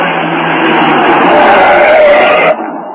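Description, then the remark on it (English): A car engine roars loudly and steadily as the Green Hornet's car speeds off from beside a stopped truck, pursued by troopers, then cuts out abruptly near the end, leaving a quieter fading tail. “You troopers, after that car. It's going too fast.”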